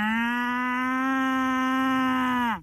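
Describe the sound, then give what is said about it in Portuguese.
A person imitates a cow's basic moo call: one long, steady, droning low note held for over two seconds before dropping off at the end, loud, with no other sounds. “Ok, há vários mugidos, este é um mugido de base.”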